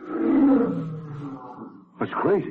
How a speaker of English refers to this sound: You hear it? I heard something. Like a lion. You get lions on the brain. Yeah, it'd be crazy. Sounded like it was outside in the garden. There's nothing out there.